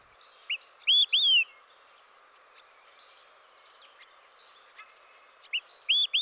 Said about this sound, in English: It's the olive-sided flycatcher. It can be seen mostly at the top of coniferous trees.